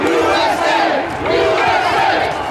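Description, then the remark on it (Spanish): A large crowd of tens of thousands at a rally outside the White House roars and cheers for Donald Trump and his allies, a dense wall of many shouting voices with rising and falling yells, loud throughout with no single voice standing out. “Vitorearon a Donald Trump y a sus aliados mientras seguían mintiendo sobre que la elección había sido robada.”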